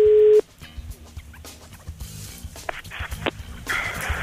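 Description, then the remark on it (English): A single short burst of a steady telephone ringing tone, loud and clear, as a call is placed to a man in Brazil at 3:50 in the morning, then cuts off into muffled, crackly line noise with faint rustling and clatter. “So Dominic rang him and woke him up at 3:50 in the morning in Brazil.”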